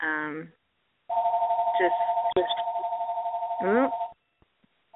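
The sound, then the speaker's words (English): A house phone rings with one long, steady trilling electronic tone lasting about three seconds. Someone speaks briefly just before, and voices talk over the ring. “It's the house phone.”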